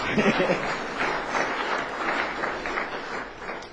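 An audience claps steadily for a few seconds, a dense, even patter of many hands at moderate loudness with no voices rising above it.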